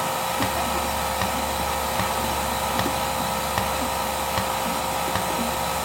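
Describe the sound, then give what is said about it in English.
A steady, loud mechanical drone from a milking machine's vacuum pump runs continuously, with faint regular clicks pulsing through the hum and no voices. “So far, the maintenance on our vacuum pump has been very minimal.”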